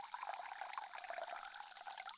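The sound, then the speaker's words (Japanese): A fizzy drink is poured steadily into a glass on the opposite ear side, with a continuous crackling hiss of bubbles for the whole stretch. It is quiet and intimate, with no talking. “というわけで、自分の分をせっかくなので逆側のお耳で継がせていただきます。”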